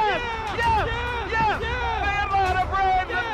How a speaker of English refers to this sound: Listen to this crowd. Left side, Swanson to first. Braves, world champions.